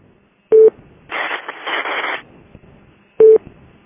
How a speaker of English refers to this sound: Okay, it's possible it's just keying up with that interference that's going on over there, because it's definitely, I can see it from the system. I can see that the source is the Forest City repeater.